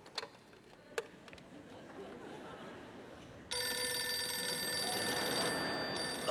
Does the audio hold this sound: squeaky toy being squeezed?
no